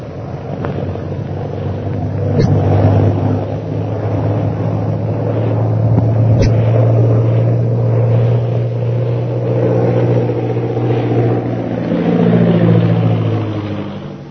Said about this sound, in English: A few hours later, the plane piloted by Derek Bluger roars in from the hill. Lin Pu and Shanghai Lil watch it circle for a landing.